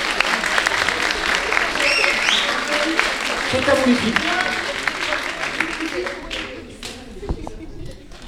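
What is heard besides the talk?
audience applause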